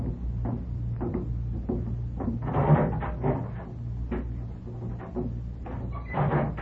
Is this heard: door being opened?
yes